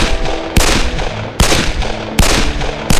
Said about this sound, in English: It was a classic ambush, but the bushwhackers were careless. Sam spotted the flashes from the gunshots and spaced his shots carefully.